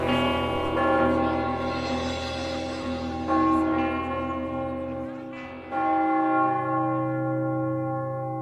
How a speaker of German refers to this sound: Er hat nur den einen einzigen feierlichen Klang im Ohr, der dort von allen Türmen der Stadt so mahnend spricht. Er lauscht hinaus in die Nacht, bis der letzte Glockenklang verhallt.